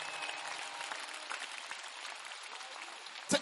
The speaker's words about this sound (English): Yes, clap your hands for the beautiful time.